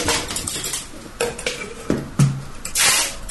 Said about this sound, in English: Is that. It the sink? It's something big. Yeah. You do it in a sink. Yeah, washing the pots, but or washing up. Yeah. Got it. Washing up.